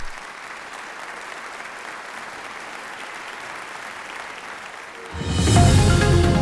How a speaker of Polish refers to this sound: Zasłużone wielkie brawa.